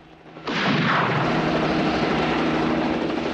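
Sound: helicopter hovering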